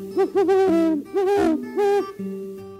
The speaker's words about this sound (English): You can find great horned owls all over the state.